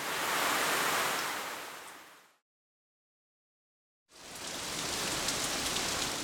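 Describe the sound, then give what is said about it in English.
Heavy rain pours in a dense, steady hiss, fading out into a brief silence before the downpour resumes just as loudly. No voices. “It was raining hard.”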